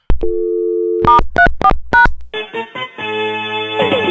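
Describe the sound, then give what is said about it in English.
A steady telephone dial tone hums briefly, then five quick keypad tones beep in an uneven rhythm as star 34 is dialed on a PBX phone system, followed by the recorded voice prompt of a PBX test box starting on the line, clear. “But so let's just dial this at star 34 on my system.”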